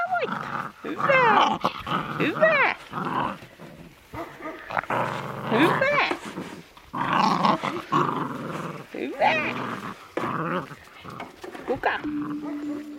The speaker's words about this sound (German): Reja zeigt Pia ihre Hunde. 16 Husky-Welpen wuseln um ihre Beine.